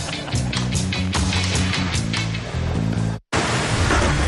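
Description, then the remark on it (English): A loud, steady roar of storm wind with gusty surges throughout, low droning tones underneath, and a sudden brief silence near the end before the rushing resumes. “This is the storm. There's a storm coming.”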